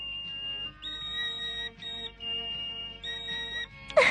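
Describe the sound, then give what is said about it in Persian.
Hanako's bamboo whistle blown in a string of long, steady high notes that hop between two pitches with short breaks, ending in a brief noisy burst. “ستاره از صدای سوت سوتک هاناکو که از بامبو ساخته شده بود لذت می برد.”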